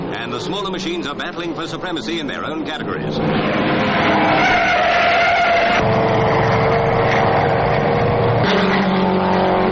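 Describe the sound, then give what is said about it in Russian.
Loud, continuous roar of racing car engines on a track as a Ferrari stops for a pit stop and an Austin-Healey, a British make, drives past, growing fuller after a few seconds and shifting in pitch as the cars surge along, dominant throughout. “Феррари останавливается на пит-стоп, а мимо проезжает Остин Хилли, вторая британская марка.”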